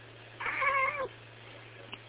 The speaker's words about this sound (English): Not a whole lot to report yet again, but the cat has moved. Do you have any things to say, cat?